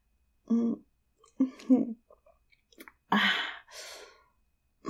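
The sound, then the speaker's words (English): Close-up mouth sounds of someone taking a sip and swallowing, with a few soft murmurs, followed by two breathy exhales like a satisfied sigh after drinking. “God, I need another sip.”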